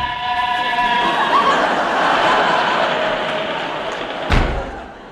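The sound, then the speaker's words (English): A door is opened and bangs shut with a single loud, sharp slam near the end, cutting through a steady roaring rumble like a passing train that fills the whole stretch. “Quick, open that door.”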